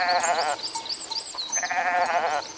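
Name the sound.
goat bleating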